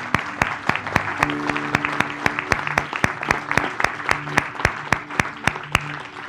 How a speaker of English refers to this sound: Let's give a clap offering.